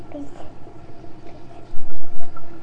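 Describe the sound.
Tap water runs steadily onto a toothbrush before toothpaste is put on, a continuous splashing stream, with a faint voice in the background and a few louder low thumps toward the end.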